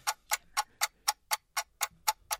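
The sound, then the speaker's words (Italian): A clock ticks steadily, about four crisp, bright ticks per second in an even rhythm, clear with no voices over it, during a quiz round as contestant Luca Salvati prepares to name three capitals starting with Y. “Sento un ticchettio che può disturbare la concentrazione di Luca Salvati, ma lo è pronto.”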